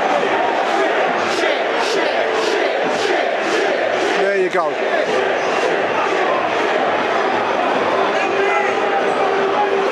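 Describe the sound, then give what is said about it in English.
A large football crowd at London Road, Peterborough roars in a sustained, loud wash of voices with rhythmic pulses, booing the players who have come down to the Millwall end, and a man's voice briefly speaks over it. “Boos for the players that have come down to the Millwall end.”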